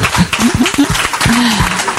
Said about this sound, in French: Le maître de cérémonie, comment faire une émission spéciale Festival des héros du cinéma du Cap d'Agde sans Michel Arosa, s'il vous plaît, sous vos applaudissements.